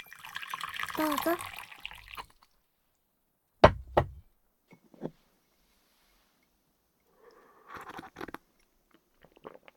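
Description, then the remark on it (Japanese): Warm tea is poured in a steady splashing stream for about two seconds, followed by two sharp clinks like a cup being set down. A short spoken phrase follows, with a soft rustle afterward. “あったかいお茶があるから”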